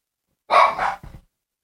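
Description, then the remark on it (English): Dogs bark in a quick pair: a loud, harsh first bark, then a shorter, softer one right after. No one speaks over them. “And I'm like, these dogs drive me crazy.”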